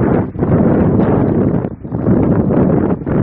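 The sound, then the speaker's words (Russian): Loud, steady wind rushes and buffets outdoors in the morning in the Polish Tatra mountains, a dense low roar with a few brief lulls. No voices are heard. “А вот что фиксирует микрофон утром в польских Татрах.”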